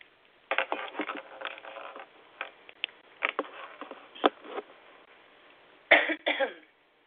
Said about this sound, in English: Yeah, I have a cough for sure.